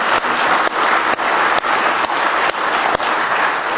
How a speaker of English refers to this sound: Let's just give the Lord Jesus a nice hand clap of praise this morning.